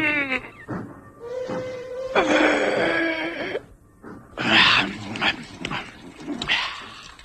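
dog grunting

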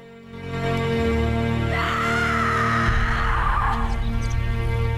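woman screaming in anguish

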